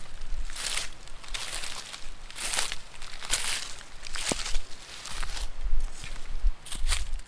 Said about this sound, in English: Listen in to the sound of my footsteps.